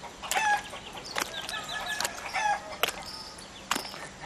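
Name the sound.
hens clucking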